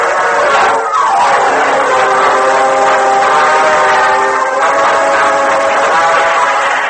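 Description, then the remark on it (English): A train rushes along at speed, its loud continuous rumble and rattle filling the whole stretch, with a sustained horn-like tone riding over the roar and a brief pitch sweep near the start. “Meanwhile, a short distance from Modoc City, Cliff Gullison hurried through the empty passenger car and joined Gopher in the engine cab of the speeding train.”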